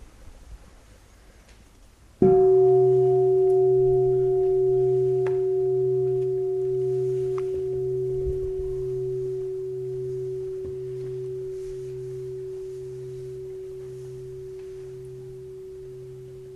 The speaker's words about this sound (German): Gut, hören wir mal gerade die Glocke und dann gebe ich ein paar Hinweise.